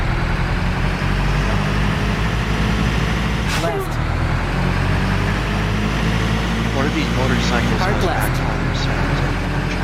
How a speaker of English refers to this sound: Motorcycles. I think it's the chop. Yeah, I think it's the chopper that has the backfire.